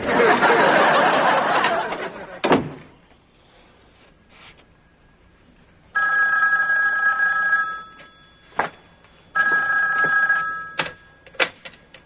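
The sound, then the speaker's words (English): A telephone in a doctor's office rings twice in bright, harmonic bursts about two seconds long, separated by a short pause, with a few sharp clicks and faint background activity between the rings. “What are you doing answering the phone?”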